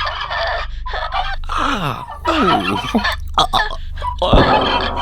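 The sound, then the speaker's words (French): A turkey gobbles loudly in an online video, a run of rapid, rattling warbles repeating over about five seconds against a steady low rumble of background noise. “Bah, c'était une vieille qui suçait un dindon, t'as pas regardé ou quoi?”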